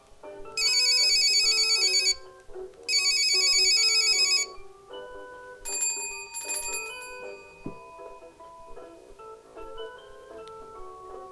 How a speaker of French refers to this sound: Petit ours brun joue dans sa chambre et il entend le téléphone.